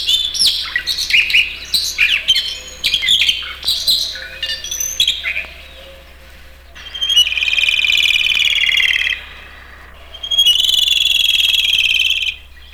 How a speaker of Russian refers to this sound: Вы слышите сейчас соловья-красношейку. Сибирская красношейка, эту птичку называют еще и так.